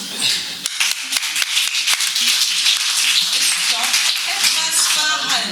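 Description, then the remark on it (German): Light, subdued applause: a steady patter of scattered hand claps that never builds, with faint voices murmuring underneath toward the end. “Also wenn das verhaltene Klatschen ein Indikator sein soll”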